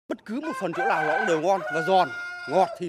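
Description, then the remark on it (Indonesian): A Dong Tao rooster crows loudly, one long, wavering cock-a-doodle-doo stretching about two seconds, followed by a short second call. “Ayam Dong Tau ini sungguh berharga.”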